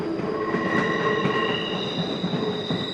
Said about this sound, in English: And there should be a soundtrack to all this, perhaps the promise of empty pages and not just the train breaking with a sigh.